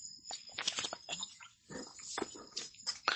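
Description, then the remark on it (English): A golden retriever named Bodhi makes a string of snuffly whines and grunting noises in irregular bursts, with no one talking. “Are you going to make a pest out of yourself? Say, of course I am, because I'm a golden retriever, and that's all I do.”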